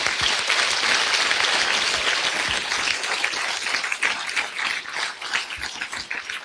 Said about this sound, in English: And so I want to thank everyone who was responsible for giving us this opportunity tonight. And why don't we give all of the cooks and all the folks who provided food a round of applause.